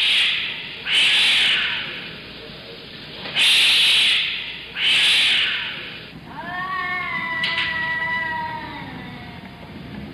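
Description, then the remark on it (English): Cats hiss in three sharp, loud bursts, followed by a long, wavering yowl of a meow drawn out for several seconds, at night at 3 a.m., with no voices. “And every night at 3 a.m., there are cats.”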